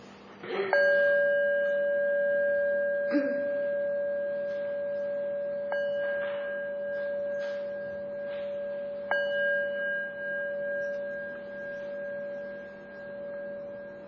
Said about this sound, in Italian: Facciamoci ampi e recipienti, e questo tempo verrà scandito da due suoni di campana.